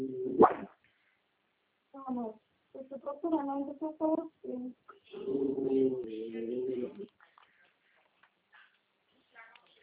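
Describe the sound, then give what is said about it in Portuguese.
A dog gives one sharp bark, then breaks into a string of high, whining whimpers and yelps for several seconds before trailing off into faint, scattered sounds. “Para, gente, de latir.”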